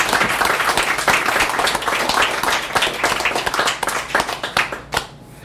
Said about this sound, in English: What a nice crowd. So this is, give yourselves a hand for coming out on a beautiful evening.